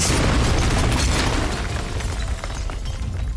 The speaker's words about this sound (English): and 70 staff were inside the building when a bomb tore through the roof of the restaurant near the kitchen, leaving a hole over 2 feet in diameter. 30 seconds later, a second bomb ignited on the roof, sending more debris into the kitchen area.